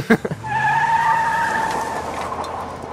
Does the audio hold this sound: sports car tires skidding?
yes